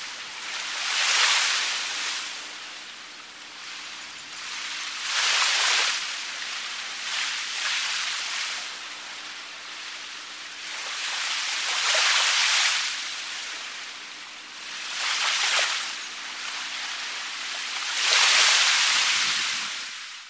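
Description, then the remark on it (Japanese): Ocean waves break and wash onto the shore in slow, rolling surges every few seconds, each swell rising to a loud hiss of foam before fading back. No voices, just the steady sea. “あなたは今、海の前に立っています。”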